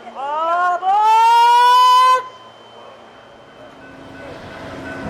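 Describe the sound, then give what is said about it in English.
A passenger train's horn blares for about two seconds at Denver's Union Station in the evening, after the train has come down from the mountains, as a crowd of people gets off and on. The horn's chord slides slightly upward, then cuts off into a low mechanical rumble and a slowly building hiss. “We descend from the mountains, making it to Denver's Union Station by the evening. A crowd of people gets off and on.”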